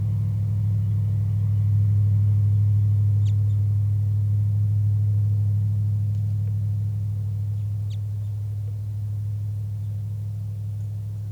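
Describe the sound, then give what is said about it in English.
Two very soft, brief, high flight calls from a wild bird, a few seconds apart, barely rising above a loud, steady low rumble of car engine noise that dominates throughout. “Very soft flight calls by the wild bird.”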